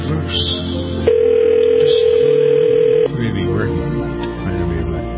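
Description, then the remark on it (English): A call to a cell phone gives a ringing tone once as a steady, clear hum lasting about two seconds, with muffled background chatter and noise before and after it. “This is her cell phone now.”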